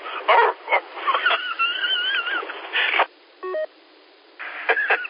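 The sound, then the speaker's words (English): A voice imitates dogs barking in several short, loud bursts over a thin, phone-like line, mixed with warbling electronic tones, a brief beep, and a quiet pause before more barks. “Who let the dogs out?”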